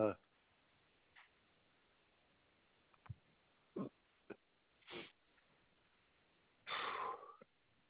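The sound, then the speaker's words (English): A person hiccups repeatedly: short, abrupt, gulping bursts at irregular intervals, about half a dozen, ending in a longer, louder strained hiccup. The hiccups have lasted two days. “I don't know if you've ever had hiccups like this.”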